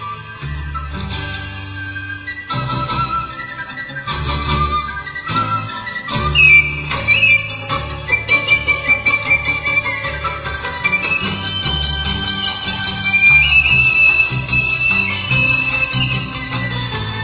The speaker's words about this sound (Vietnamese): Đến ven đồi, bỗng cô nghe có tiếng sáo véo von, lúc trầm lúc bổng văng vẳng bên tai. Cô ngạc nhiên quá, ngồi xuống phiến đá ven đường, chăm chú lắng nghe.